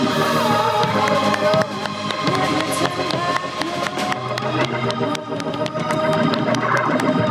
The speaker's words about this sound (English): Hallelujah. Put your hands together. Let's give God the best hand clap of the year.